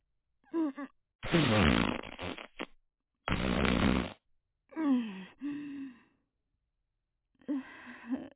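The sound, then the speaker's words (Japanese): Two loud, raspy farts from a middle-aged woman, the first long and sputtering, the second shorter, framed by brief voiced exclamations and groans before and after. “ごめんね、おばさんおなら出しちゃった。”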